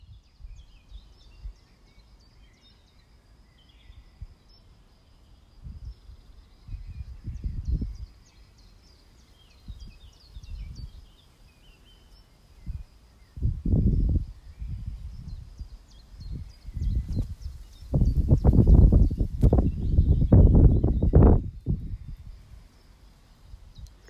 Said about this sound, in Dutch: Hoor je dat? De wind, de vogels, het geritsel van hun bladeren.